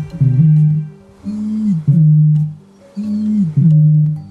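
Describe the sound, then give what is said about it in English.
A bittern's deep, resonant booming call, several low hollow notes in a rhythmic, paired pattern with short gaps, loud with nothing else heard. “There's the strange scooching sound of a bittern.”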